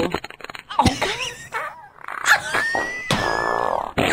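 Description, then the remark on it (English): A fart sound effect played from a small Alexa smart speaker when asked: a series of buzzy, squelchy blasts with wavering pitch, fairly loud, filling about four seconds with no one talking. “Alexa, guess. Fart!”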